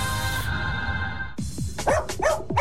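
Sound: dog barking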